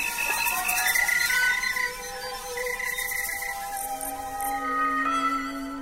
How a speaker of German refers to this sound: Wir sind dabei, wenn Grillen ein richtiges Konzert geben, also so richtig mit Orchester und Publikum.